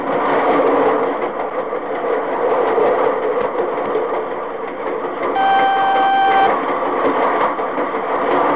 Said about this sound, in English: and you see this train, 120 cars going past, all loaded, reefers. Listen to that. There go the reefers past. Yeah. And that ain't a diesel either. There's the flat cars, you know?